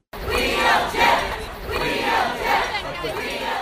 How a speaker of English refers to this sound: On Monday night outside the Supreme Court, an abortion rights crowd gathered to protest just after Trump made his selection.